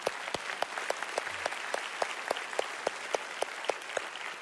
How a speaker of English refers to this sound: Yeah, let's clap.